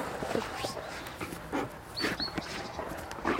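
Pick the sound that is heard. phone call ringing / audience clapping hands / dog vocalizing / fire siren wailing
dog vocalizing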